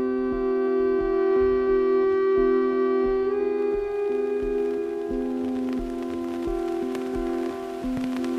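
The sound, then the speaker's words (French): Steady rain patters across a surface, growing a little denser partway through, over a constant low droning hum. No one speaks. “Je trouve que c'est aussi beaucoup plus beau dans une journée de pluie.”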